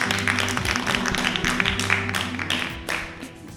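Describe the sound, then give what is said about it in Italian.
Steady, dense applause from an audience, measured by an applause meter to pick the winner of a poetry challenge, fills the whole stretch, a continuous crackle of many hands clapping at moderate loudness, with a faint low hum or murmur underneath. “E in base al nostro applausometro, che ore sono, è il momento di annunciare il vincitore della challenge di poesia.”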